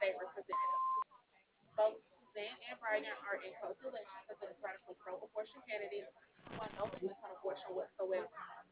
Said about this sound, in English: phone number after the beep. We will return your call.